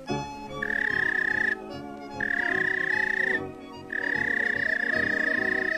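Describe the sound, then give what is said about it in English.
A human whistle calling a police dog: three long, steady, high-pitched blasts separated by short pauses, loud, over a dense, rumbling background. “Suppose you own a police dog. Here's the way it whistled to him.”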